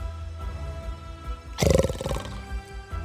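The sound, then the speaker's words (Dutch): A lion lets out one short, loud, growling roar that swells suddenly and fades within about half a second, standing out over a low, quiet background rumble. “Wat? Zelfs de leeuw?”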